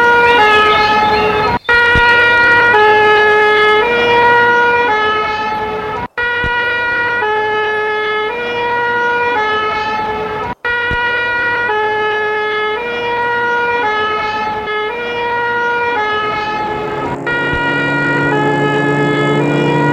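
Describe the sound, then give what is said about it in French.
An ambulance taking an accident victim to hospital in Lyon wails its siren loudly in a steady alternating two-tone pattern, with road and engine noise underneath, then begins to fade as the vehicle moves off near the end. “Avec sa voiture, elle suit l'ambulance derrière.”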